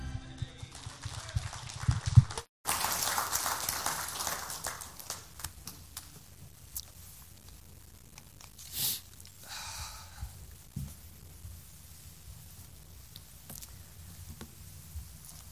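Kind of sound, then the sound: crowd, audience clapping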